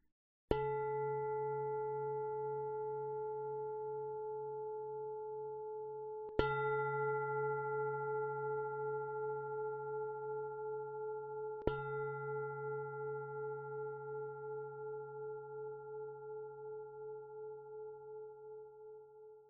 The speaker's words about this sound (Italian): Ci prendiamo ancora qualche istante per assestare la nostra posizione, per poi iniziare la pratica al suono delle tre campane.